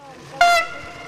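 A short, bright blast of a train horn stands out over a low, steady rumble of a passing Israeli train on the Jerusalem–Tel Aviv line, which runs at the bottom of a field.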